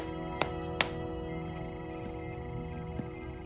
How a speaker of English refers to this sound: On the starship, Chakotay chips at a piece of the asteroid with a hammer as B'Elanna scans it.